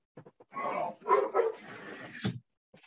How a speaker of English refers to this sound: You know, I got to close my window because there's a dog out there.